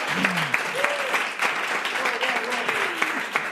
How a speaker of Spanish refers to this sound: Per tant, un aplaudiment, no?, sisplau, per això.